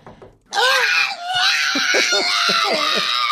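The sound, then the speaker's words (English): A pug named Megan, known as the screaming pug, lets out a loud, sustained, shrill scream that wavers in pitch, breaking into a string of rapid, choppy yelping wails that sound almost human. “That's Megan, the screaming pug.”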